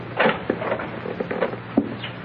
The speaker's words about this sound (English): He's coming back, boss. He's opening the door.